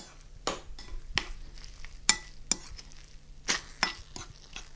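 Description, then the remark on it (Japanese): Eggs and chicken sizzle in a hot pan with a soft, steady crackling hiss as the setting egg is broken up with a spoon, broken by a series of sharp scraping clicks at an uneven rhythm over a low hum. No one speaks. “この時暑いのでお気をつけください。ジュージュー言っています。”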